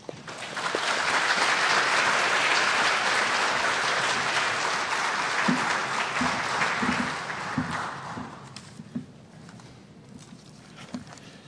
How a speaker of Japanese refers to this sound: 拍手を持ってお迎えいたしましょう。